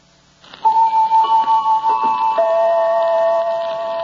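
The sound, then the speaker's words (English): A steady, rapid clock ticking in a regular rhythm, fairly loud, with a sustained ringing tone layered over it that lingers to the end, introducing the radio program series The Clock. “We present a new series of radio programs, The Clock.”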